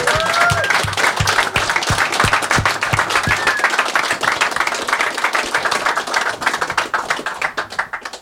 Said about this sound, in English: I don't want to get into all of it, but can we all just give a round of applause to Ian Murdoch for his services to Linux?